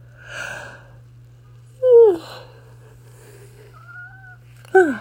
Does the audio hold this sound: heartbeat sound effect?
no